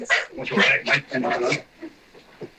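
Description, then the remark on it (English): A dog barks and whimpers on a voicemail recording in a rapid, agitated run of loud bursts, then trails off into a few softer whines, all with a thin, phone-like quality. “The dog is losing it.”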